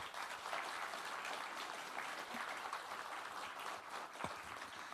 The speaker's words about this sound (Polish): I za to należą się dla Was ogromne brawa. Poprosimy o brawa.